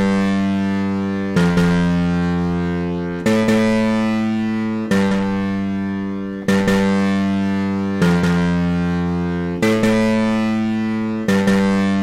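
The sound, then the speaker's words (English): A keyboard's distortion guitar patch, number 3, plays a slow run of held, buzzy chords, each struck sharply and ringing about a second and a half before the next, loud with no talking. “Distortion guitar number 3.”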